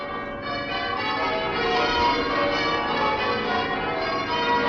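The church bells of Westminster Abbey in London ring out in a continuous peal, many overlapping strikes blending into a loud, dense wash of metallic tones with a slightly muffled, old-recording quality and no voices.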